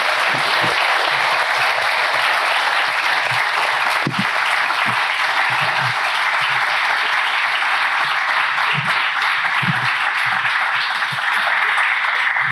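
Sustained audience applause, a dense, steady wash of many hands clapping at full volume for the whole stretch, with a few louder individual claps and faint whoops poking through.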